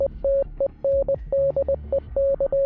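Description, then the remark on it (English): Morse code beeps spelling out the word "Stendek": a single clear, mid-pitched tone keyed on and off in quick dots and longer dashes, loud and steady, with no voices. “Stendek sounds confusing in English, but again, here's what it sounds like in Morse code.”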